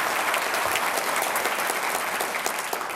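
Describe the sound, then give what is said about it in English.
A large audience claps steadily and loudly to welcome T. Boone Pickens, a dense wash of overlapping handclaps without pause and no voices rising above it. “Got a nice crowd.”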